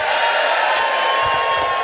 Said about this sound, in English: Friends, I will just point out, you're cheering the fact the laptop is back on.